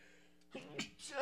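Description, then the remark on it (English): A person sneezes once, fairly loud, with a sharp breathy burst after a quick inhale; no other sounds around it. “gotta sneeze.”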